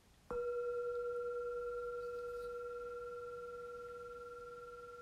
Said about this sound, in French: Alors, au son du gong, laisse-toi guider car l'exercice va commencer.